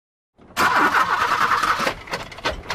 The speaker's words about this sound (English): It's no good. I can't start the engine. Oh, great. This car's nothing but trouble.